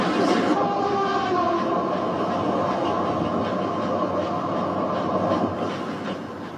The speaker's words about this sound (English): That couldn't have been an express train. There are no non-stop express. You're right. That was an express train near the stop of this station.